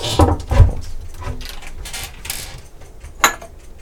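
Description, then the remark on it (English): An overhead wooden cupboard door is pulled open with a short creak and knock, followed by light clinks and a final sharp tap as a glass is taken out. “I'll grab a glass out of the overhead on cupboard.”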